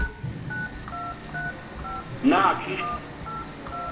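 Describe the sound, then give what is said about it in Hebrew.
A steady series of short, two-toned telephone keypad beeps plays at an even pace, and a brief burst of voice cuts in partway through over faint background noise. “נא להישמע צפצוף, נא להשמיע תיאור קצר של השיעור, ואחר כך סולמית.”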